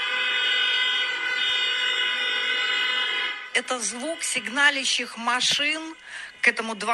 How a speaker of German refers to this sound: Das sind die Hupen der Autos vor dem Palast der Republik, ihr Protest gegen die Verfassungsversammlung von Alexander Lukaschenko.